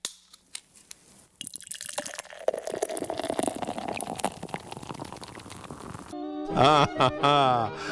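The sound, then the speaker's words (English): After a few faint clicks, beer pours steadily into a glass for several seconds, fizzing and gurgling as the pitch rises while it fills. A man's voice begins right after. “Well, the beer pouring into the glass, I tell you what, it's no secret that a lot of people in Wisconsin like beer, and more we like craft beer.”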